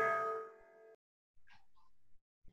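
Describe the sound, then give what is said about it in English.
A doorbell chime rings once, bright and ringing, then fades out within a second, followed by a few quiet, muffled sounds in the background. “I'll wait till your bell.”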